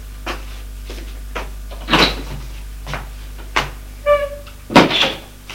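A door being opened: a series of sharp clunks and latch rattles over several seconds, with a brief squeaky creak near the end, and no one speaking.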